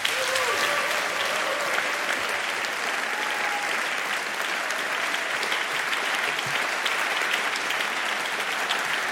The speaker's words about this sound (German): klatschen Sie jetzt für die fantastische Uta Köbernick!